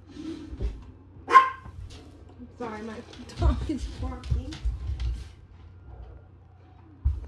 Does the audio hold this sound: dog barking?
yes